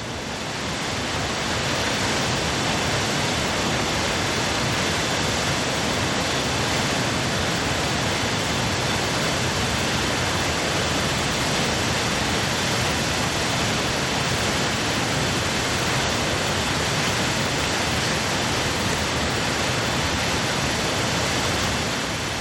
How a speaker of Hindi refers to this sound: आगे चलकर दर्शन होते हैं धनचो झरने के।